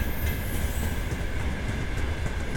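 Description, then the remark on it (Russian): Empty railway flatcars of a freight train rush past without load in a steady, loud rumble with a dense low clatter and a faint, thin high whine running through it; no voices. “Замечательно звучат платформы, звучат замечательно просто несущиеся без груза.”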